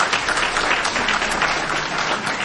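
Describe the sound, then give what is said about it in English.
Steady audience applause fills the whole stretch, a dense, even wash of many hands clapping at constant loudness with no voices rising above it. “Despite the applause, this is also a very practical audience.”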